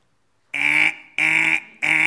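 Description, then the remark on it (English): A voice imitates a car alarm with three loud, nasal, buzzy blasts, each about half a second long and evenly spaced, with short silent gaps between them. “Whatever else, remember this, whatever else you do, if you're not loving, your car alarm.”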